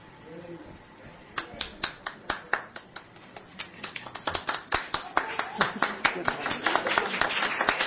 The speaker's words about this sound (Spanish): Solicitamos un aplauso para celebrar este momento y les pedimos amablemente a las y los firmantes que muestren el documento para la toma de fotografía.